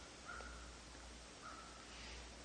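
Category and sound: bird, crows cawing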